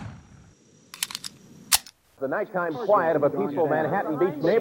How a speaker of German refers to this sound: Ein Schuss, dann der TV-Bericht von einem Attentat.